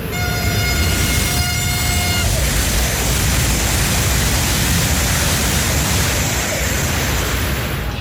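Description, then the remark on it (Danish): Loud, steady ambience in one of Europe's largest railway stations during morning traffic: a train's rumbling roar fills the whole stretch, opened by a sustained harmonic horn-like tone that holds for about two seconds before fading into the noise. “Den her banegård, den er bare vildt stor.”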